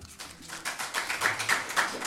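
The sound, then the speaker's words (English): An audience claps together in a steady, rhythmic patter of sharp, bright slaps that build slightly louder over about two seconds, with no voices. “Please, don't clap me. Clap the Lord Jesus Christ.”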